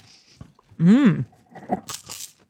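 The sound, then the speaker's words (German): Crunching on fried snack sticks from a package with Chinese characters: a few short, crisp bites, coming after a brief, pitched, voiced hum that rises and falls. “Na, jetzt bin das ich bei den halt Churros.”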